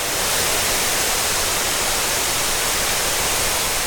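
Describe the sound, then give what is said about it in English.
Loud, steady rush of falling water mixed with the constant whoosh of the large fan of a five-story cooling tower at the University of Texas, a dense hiss that stays even throughout with no pauses or voices. “When the fan gets turned all the way up, you'll see that water draw right in like that.”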